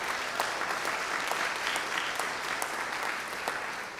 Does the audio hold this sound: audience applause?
yes